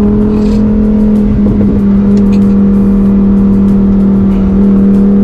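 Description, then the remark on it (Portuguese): A car engine drones steadily at high speed, reaching about 130 mph (around 180-190 km/h) on a drive in the United States, a loud sustained hum with a strong low tone and rushing road noise, no voices present. “Realmente queria dizer a velocidade que eu estou alcançando aqui, mas eu estou nos Estados Unidos, aqui é tudo em milha, 90 milhas, 100 milhas, 130 milhas, vai, foi a máxima, eu imagino que é perto de 180, 190 km por hora.”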